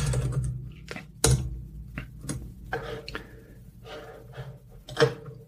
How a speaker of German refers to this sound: Mit live. Tastaturgeräusch, live, authentisch.